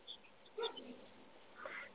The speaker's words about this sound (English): Here's some puppies in the background. Yeah, I have a Doberman puppy that can get loud.